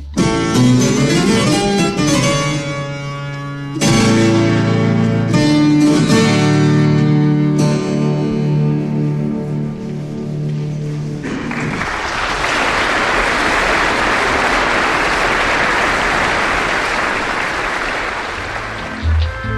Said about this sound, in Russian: аплодисменты по окончании, по-моему, хроматической фантазии фуга. Вот он ее отыграл, и люди радуются.